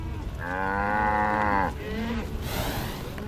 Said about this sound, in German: und die zum Campground gehörenden Highland-Rinder dabei beobachtet, wie sie den Böen trotzen.